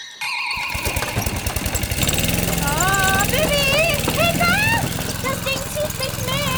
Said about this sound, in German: Ach, nun geh schon an, du blödes Ding. Soll ich hexen? Ja. Ene mene Reiterspuren, Rasenmäher kommen auf Touren. Hex, hex!